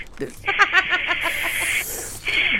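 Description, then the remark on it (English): A voice imitates spraying black spray paint, making a long, bright hissing rush with a fluttery texture, then a second shorter hiss after a brief break. “Some people do spray paint, and then they also make the sound while spray painting.”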